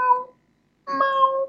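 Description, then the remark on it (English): Two drawn-out meows imitated by a human voice: a short one, a brief pause, then a longer, steadier one. Both are clear, with no other sounds. “Or you can do kitty sounds.”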